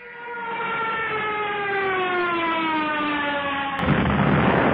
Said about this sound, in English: Oh no! Boyd's toy plane crashed down on the ground.